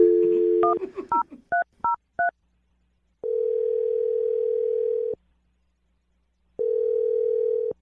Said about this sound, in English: We're about to dial his phone number. You ready? Yep. Okay, here we go,